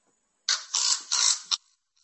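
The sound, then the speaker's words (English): A raven calls with a quick run of three or four harsh, rasping croaks, loud and gravelly, then a faint trailing sound. “I'm going to play the sound of a raven because it's quite pertinent to what we want to think about.”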